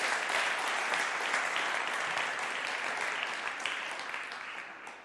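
Sustained audience applause for a volunteer after a demonstration of an inflatable life vest: a dense, steady patter of many hands clapping at a fairly even level for about five seconds, tapering slightly at the end, with no voices over it.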